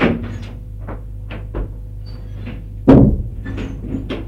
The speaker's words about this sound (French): Il se plaque le dos contre la porte qui vient de se refermer.